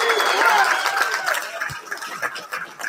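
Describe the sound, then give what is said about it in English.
A large crowd cheers in a dense, continuous roar of many voices, with a few shrill whistle-like cries early on, the noise easing slightly and turning more scattered toward the end. “I mean, that does sound pretty, that does sound like a lot of people cheering.”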